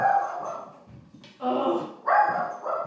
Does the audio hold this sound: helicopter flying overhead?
no